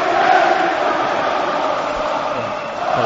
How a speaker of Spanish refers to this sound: Mira, cantan Roberto Soldado.